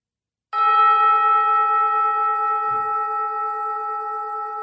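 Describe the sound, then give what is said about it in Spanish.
A single gong strike rings out clearly and alone, its bright, shimmering tone sustaining and fading only slightly over several seconds, marking the beginning of a story. “Y ahora solo queda cerrar los ojos y esperar el sonido del gong que indica el principio de la historia.”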